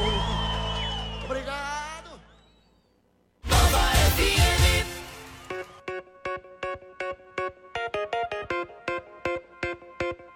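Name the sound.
audience shouting and cheering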